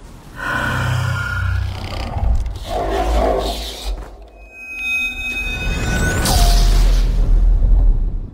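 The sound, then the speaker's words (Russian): A video game Reaper's roar, made a moment before Shepard's shot: a loud, deep, grinding bellow lasting several seconds, with a ringing metallic whine partway through and a sharp downward-sweeping tone near the end. No one speaks. “Вот смотрите, за мгновение перед выстрелом Шепарда жнец издает звук.”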